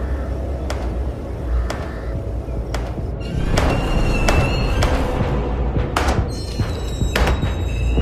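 A hammer pounds hard on the door of a room, about ten sharp, heavy blows at an uneven pace, some with a faint ringing afterward, over a low steady rumble with no one speaking.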